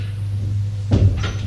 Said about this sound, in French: Il frappe à une porte. Il me fait entrer.